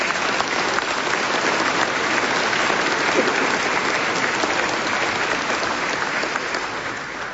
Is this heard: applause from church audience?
yes